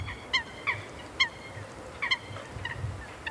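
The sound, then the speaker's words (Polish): Sharp, high-pitched squeaking calls of Eurasian coots in a city, several short bursts repeating irregularly, clear over a low background rumble of water and wind, with no voices. “ale jednak ta miejskość nam towarzyszy, a wraz z nią być może ostre, wysokie popiskiwania, kwękania, bardzo charakterystyczne. Troszkę lekko płaczliwe. Jest tego dość dużo. To łyski właśnie.”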